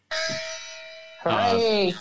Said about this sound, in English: Is that a gong?